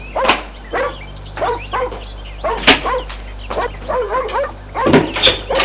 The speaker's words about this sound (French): Dans la cour, le chien continua à aboyer.